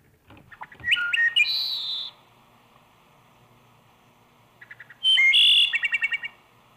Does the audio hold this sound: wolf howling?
no